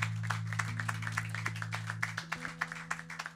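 An audience applauds with quick, fairly even claps that grow sharper and more rhythmic toward the end, over a steady low droning tone that cuts out partway through.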